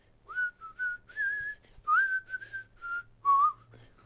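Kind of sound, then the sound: sound effect, whistled tune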